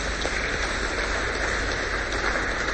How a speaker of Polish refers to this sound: Brawa dla niego.